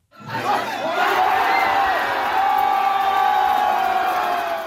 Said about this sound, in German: Als Kylian Mbappé in der Nacht von Mittwoch auf Donnerstag Frankreich ins WM-Finale führt, ist der Jubel in Hongkong groß.